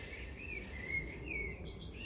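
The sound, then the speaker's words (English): Nightingale song: a run of high, sweet whistled phrases with rising and falling notes, repeating every half second or so, fairly soft over a steady low rumble and hiss. “I heard on the radio this morning while I was in the shower that the nightingale has been deemed the bird with the more variety to its song than any other bird.”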